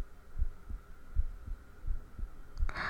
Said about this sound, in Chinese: 什么叫现在听我的心跳比那时候声音要小了？什么意思啊？